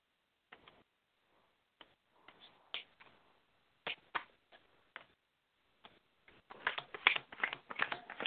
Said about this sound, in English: Let me shuffle the cards.